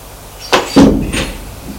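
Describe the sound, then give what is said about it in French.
A bedroom door being opened: a sharp latch click, a dull wooden thump as it swings, then a lighter knock, all within about a second against quiet. “Ouvre la porte, éclaire et le fait entrer.”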